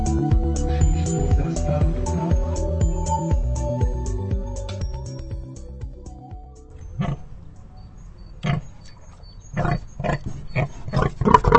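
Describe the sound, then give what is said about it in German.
A pig grunts and snorts repeatedly, rough low bursts in an uneven rhythm, with some wooden knocking and shuffling around it and no talking. The pig is in a wooden crate on a trailer before a home slaughter in Slatinane, Czech Republic. “Das Schwein grunzt noch ahnungslos in seinem Holzkäfig auf dem Anhänger dahin.”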